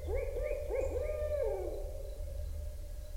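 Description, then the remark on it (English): Birds call at dawn on the Mississippi River, early in the morning as they wake, in a quick run of four or five hooting, arching notes that trail off after a second or so, over a steady low background rumble. “Gordon made this recording early in the morning as the birds were waking up and singing to the dawn.”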